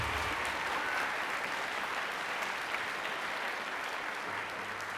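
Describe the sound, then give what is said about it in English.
Audience applause for the volunteers who handled ticket coordination for three nights of Stairway, a dense, steady crackle of many hands clapping at an even loudness with no voices on top. “And they deserve a huge round of applause, because that's a hard job.”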